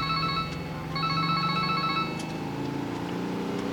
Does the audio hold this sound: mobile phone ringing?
yes